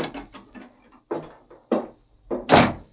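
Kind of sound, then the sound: household object, door opening and closing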